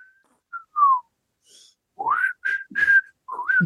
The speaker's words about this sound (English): I forgot how to lip whistle. I have to tongue whistle now. Oh, I kind of did it. It's coming back.